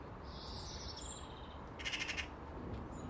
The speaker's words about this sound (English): It just flew down in the garden because a magpie flew to the top of the conifer. The deadly magpies.